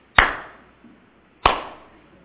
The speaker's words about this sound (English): One thing that me and my friend like to do is we like to start the slow clap. You know what the slow clap is?